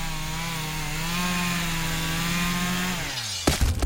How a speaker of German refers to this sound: Heutzutage könnte es natürlich auch irgendein Irrer mit der Kettensäge sein.